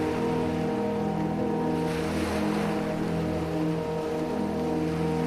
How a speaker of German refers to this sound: Die schwarzen Wassermassen, die sich um uns ausgebreitet haben, plätschern leise vor sich hin. Ruhig schippern sie uns in einen neuen Tag.